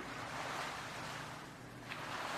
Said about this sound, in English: See if you can go beyond the sounds of the waves.